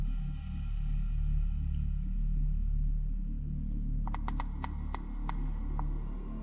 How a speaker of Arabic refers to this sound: هذه هي حشرة عط التبغ التي تقتات على أوراق التبغ وتلتهمها بسرعة كبيرة.